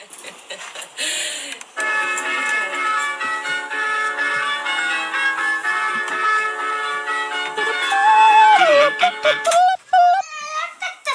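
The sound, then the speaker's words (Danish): An electronic doorbell chime, one of 32 selectable sounds on a doorbell received as a Christmas gift, plays a bright, sustained melody of layered tones, loud, ending with a few wavering, sliding notes. “Jeg har fået en ringeklokke i julegave.”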